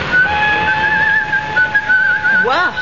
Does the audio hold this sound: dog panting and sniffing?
no